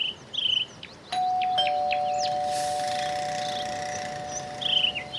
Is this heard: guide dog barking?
no